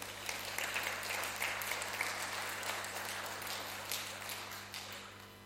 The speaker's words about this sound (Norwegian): Vi gir deg jo en klapp